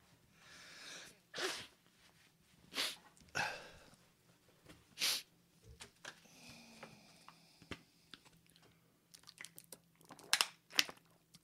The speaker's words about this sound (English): I'm sniffling a bit. Would you mind if I blow my nose? I didn't think you would.